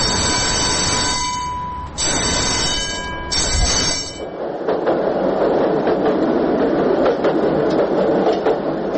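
A tram runs along its rails. Shrill metallic squealing from the wheels opens the sound, then gives way to a steady rolling rumble punctuated by clicks over the rail joints. No one speaks.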